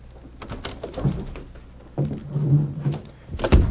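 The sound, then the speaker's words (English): Metallic rattling and a few sharp clicks, like a key working a lock, followed by a door swinging open with a low creak and a final knock: the door of the Clarion newspaper office being unlocked early in the morning. “Early the next morning, Red Bassett unlocked the door of the Clarion office.”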